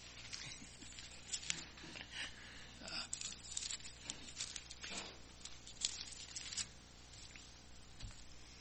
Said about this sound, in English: I don't think my hands are froze up, but I'm having a hard time turning the pages.